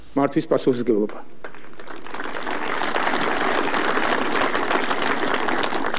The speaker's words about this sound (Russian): Здесь Иванишвили прервали аплодисментами. За почти 9-минутную речь Иванишвили прервали овациями 14 раз.